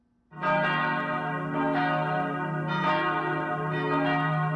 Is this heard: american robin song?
no